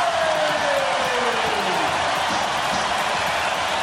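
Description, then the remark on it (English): A large basketball arena crowd at a Golden State Warriors home game against the Memphis Grizzlies roars and cheers loudly and without pause after Steph Curry's 400th three of the season, a dense, sustained wash of voices filling the whole space, with no single speaker standing out. “And listen to the crowd.”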